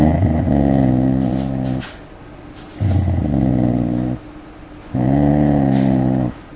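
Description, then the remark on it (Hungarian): A dog growls in three sustained, rumbling bursts, each lasting over a second with short pauses between, fairly loud, a deep throaty sound with no other voices, provoked by a stranger approaching it step by step while staring threateningly into its eyes. “Illetve volt egy olyan szituáció, ahol egy idegen ember fenyegetően meretten a kutya szemében nézve, a lépésről lépésre közeledett a kutyához, és ez váltott ki morgást az alanyokból.”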